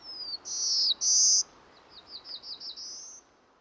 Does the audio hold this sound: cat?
no